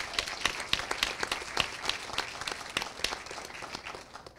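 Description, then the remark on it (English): An audience applauds the Paul Taylor Dance Company and the Eisman Center at the close of the evening, a dense crackle of many hands clapping at once with sharp individual claps poking through, sustained at a fairly even level throughout. “Again, a huge round of applause for the Paul Taylor Dance Company and the Eisman Center for their partnership this evening.”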